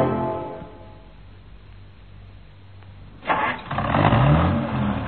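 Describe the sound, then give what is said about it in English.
A new car's engine cranks and catches, then revs up loudly into a steady roar after a few seconds of low rumbling idle, with no talking. “A nice, bright, shiny, new car.”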